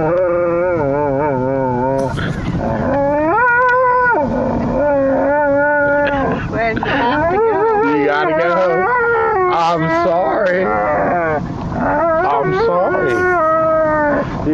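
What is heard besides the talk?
dog howling and whining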